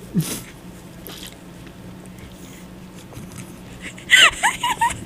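A slurping sip of a drink near the end, a short wet burst with a few quick gulping squeaks, after several seconds of quiet hiss and a faint early rustle.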